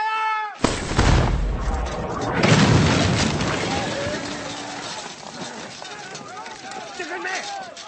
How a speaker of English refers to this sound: Fire the 18-pounder. Sir? You heard me. Fire the cannon. Run the gun.